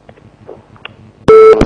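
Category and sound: signal or alarm, telephone busy signal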